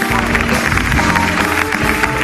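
A studio audience at a TV game show claps loudly and steadily for a 53-year-old contestant from Artesa de Lleida, a dense wash of hand claps layered over upbeat music with sustained tones underneath.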